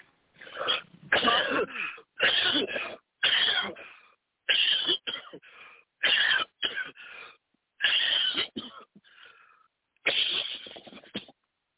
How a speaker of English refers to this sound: Now cough Amen. Again.